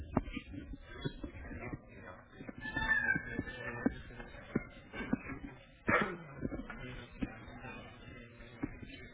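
A cat meows a few times, short tonal cries rising and falling over a noisy background with scattered shuffling and handling sounds, including one sharp louder burst.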